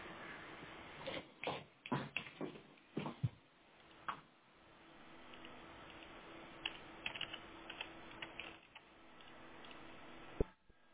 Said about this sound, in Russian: проверить, плотно ли интернет-кабель подключен. Выключить и до щелчка опять включить, потому что у нас пока что нет сигнала физического.